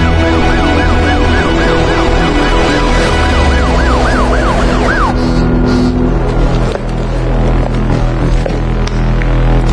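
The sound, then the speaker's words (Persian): An ambulance siren wails in quick rising and falling cycles for about five seconds, then cuts off, leaving a loud, steady low rumble and hum. “به در ورودی زنگ بزن، اجازه ورود آمبولانس بدن.”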